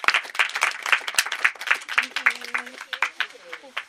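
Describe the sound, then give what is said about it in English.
A live audience at a Badass Women's Hour show at the W Hotel London applauds, a dense, steady patter of many hands clapping throughout, with a few voices and a brief tonal whistle or cheer rising partway through. “give yourselves a huge round of applause for turning up tonight.”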